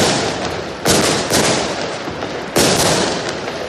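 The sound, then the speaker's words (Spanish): Firecrackers and fireworks bang in a dense, continuous barrage, with several louder sharp blasts standing out over a constant crackling roar. No one speaks. “Los petardos, los fuegos artificiales, las tracas, las bombas de humo, todos estos artículos son sinónimo de fiesta, de algarabía, de celebraciones, pero hay que tener cuidado al manipularlos, y más si tenemos cerca algún niño”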